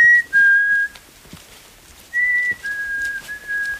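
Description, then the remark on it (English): A person in a lodgepole forest whistles steady, high-pitched notes imitating birdsong to call in birds to photograph, in two sustained phrases, each held for about a second with slight pitch steps, with a short quiet gap between them. “He turns on his heels, lifting his long lens to snap pictures of birds, trying to call them in.”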